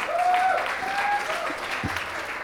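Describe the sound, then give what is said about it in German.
An audience claps in a steady, dense wash of applause that holds its level throughout, with a brief whistle-like tone and a faint voice briefly audible beneath the clapping. “Und auch gefangen, Applaus schon mal dafür.”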